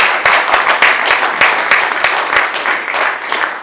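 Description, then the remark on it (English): A crowd of people involved in a protest movement applauds steadily, many overlapping claps blending into a dense, loud patter that holds at an even level for several seconds without voices. “We need to give ourselves a round of applause.”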